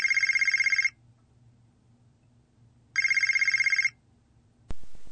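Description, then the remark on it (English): A telephone rings twice at home as someone reaches their bedroom, with a fast trilling bell, each ring about a second long with a two-second pause between, loud over a low hum, ending in a click as it is picked up. “As I got to my room, the phone rang.”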